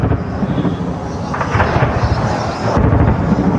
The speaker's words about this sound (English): Here last Thursday, the sound of gunfire in Sana'a. Yemen's capitalist Houthi fighters and government forces fought neighborhood by neighborhood for control.